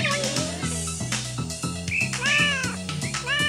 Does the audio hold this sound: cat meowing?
yes